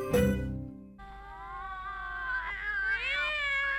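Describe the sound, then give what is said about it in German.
A kitten meows: a short, sharp cry, then a long, drawn-out, high-pitched meow that wavers and rises toward the end. No one speaks. “Kleine Katzen sind so trollig und so wollig und so mollig, dass man sie am liebsten küsst.”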